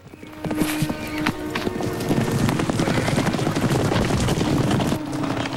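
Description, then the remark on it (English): Horse hooves clatter in a quick, steady rhythm as a rider gallops away on horseback, a dense run of loud thuds that continue for several seconds with no talking. “Jordan glowers as Tyler rides off, leaving her to struggle to her feet.”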